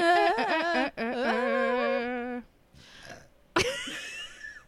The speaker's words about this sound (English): And finished off with a burp.